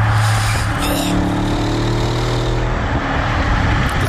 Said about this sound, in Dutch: Lekker auto. Ja, lekker. Audi RS6.